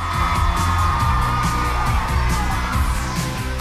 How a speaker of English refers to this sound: The girls clap and cheer.